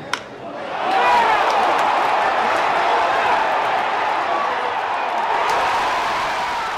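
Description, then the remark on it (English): A large stadium crowd erupts into sustained, loud cheering after Barry Bonds drives a home run to deep left center, his 735th; a dense roar of many voices with whoops and shouts that swells after a brief sharp crack and holds steady. “The crowd goes crazy.”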